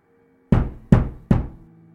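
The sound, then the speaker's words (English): Three heavy knocks on a front door, loud, evenly spaced about a third of a second apart, each with a deep thud that rings out briefly before the next. “Three loud knocks made me almost jump out of my skin, and almost made me fall down the stairs.”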